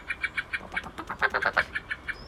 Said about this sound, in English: That's all blackbirds. Mm. Wide range there of blackbirds.